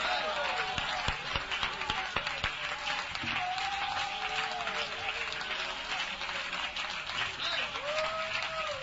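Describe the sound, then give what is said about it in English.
A standing audience gives Jesus a big hand clap in a dense, steady wash of applause that carries on loudly for the whole stretch, with a few voices calling out over the clapping. “Let's everybody stand and give Jesus a big hand clap right now.”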